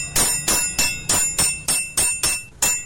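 A 68-year-old tinsmith's hammers ring out on sheet tin in a dark, cold tinsmith workshop in Taloqan, capital of Takhar province, in a steady run of about nine sharp metallic strikes, each with a bright, bell-like ring that decays quickly before the next blow. No one speaks.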